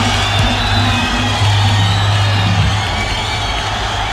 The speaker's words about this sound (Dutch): werden met oorverscheurend gejuich en gegil begroet.